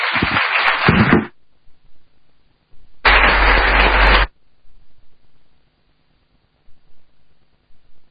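Two short bursts of dense, crackling applause, each about a second long, separated by a pause, then near silence with only faint low murmurs.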